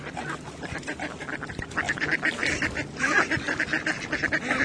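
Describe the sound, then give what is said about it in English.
Ducks on Barty's pond quack continuously in a busy, overlapping chorus, moderately loud, with repeated nasal calls layered over a constant outdoor background and no talking. “And now, digitally gathering to watch the ducks on Barty's pond. What the hell are they doing?”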